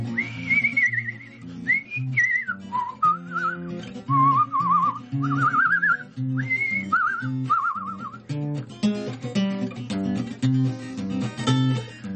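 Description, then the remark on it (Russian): A clear, wavering human whistle of the kind used to call horses to water, placed at the start of a song, rises and falls in several short melodic phrases over steady instrumental accompaniment, then fades out while the music carries on alone. “Вот таким свистом зовут лошадей на водопой.”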